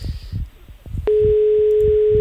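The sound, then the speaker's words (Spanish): Muffled, rhythmic phone-line murmur gives way to a sudden loud, steady electronic beep that holds unbroken to the end, as a phone call is picked up by an answering machine signalling to start recording. “Le atiende el contestador.”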